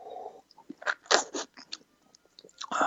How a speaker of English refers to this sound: It's all overall, I think it's a smooth, medium body, well-balanced wine. One more sip here.